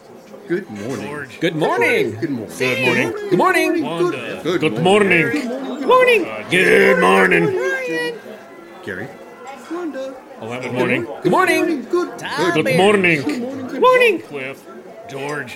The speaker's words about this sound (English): Meanwhile, back at the Tyna Cafe, it's the late breakfast crowd.